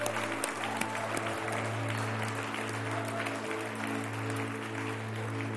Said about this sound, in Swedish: Det blir så att vi bara klappar om alla de som har tagit beslut här ikväll. För det är så fantastiskt.